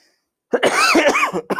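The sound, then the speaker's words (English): After a brief silence, a rough, raspy cough from allergies breaks out, a few quick, throaty bursts running together with a gravelly, throat-clearing edge, then a short final hack. “Excuse me, my allergies have been crazy.”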